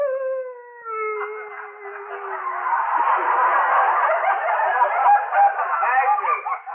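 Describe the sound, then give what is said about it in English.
A woman howls loudly from the bedroom, her voice starting as a long, sliding tone and then breaking into a rough, strained wail that carries on steadily with no words. “But she's howled it off.”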